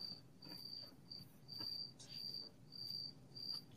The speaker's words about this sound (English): There's crickets chirping in the background, literally. that's awesome.